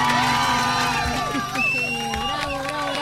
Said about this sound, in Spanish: ¿Viste cómo se van replicando los aplausos? Van sumando. Cada vez son más. Cada vez son más.